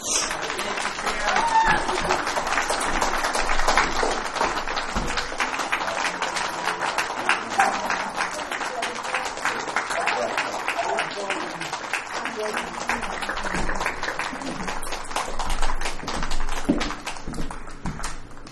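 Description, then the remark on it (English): A crowd at a Narcotics Anonymous meeting applauds the speaker steadily for about eighteen seconds, a dense, crackling wash of many hands clapping at once, with voices faintly mixed in and a brief swell near the end. “And give our speaker another round of applause.”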